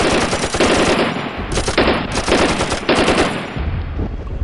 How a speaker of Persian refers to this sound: با استفاده از این شناورها که تو فاصله های مشخص و شلیک گلوله به طرف ساحل حرکت میکردن، تونستیم ذهن دشمن رو که با توپ 23 میلیمتری به شکل رگباری آتیش روی هور میریختند منحرف کنیم تا غواصا در کمال آرامش کمینای دشمن رو از بین ببرن.